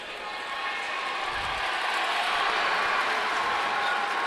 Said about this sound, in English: Some of the Wisconsin Lutheran fans cheering as they just showed the freshman Cash Knipple on the video board here at the Kohl Center.